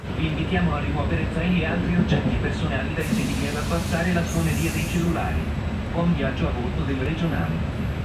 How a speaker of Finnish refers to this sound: On tosi kiva. Söpö juna.